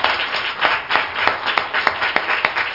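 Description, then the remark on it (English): A church audience claps hands together in praise in a steady, dense burst of applause, with sharp individual claps standing out rhythmically above the wash of many hands, fairly loud with no talking. “Let's give him another hand clap of praise.”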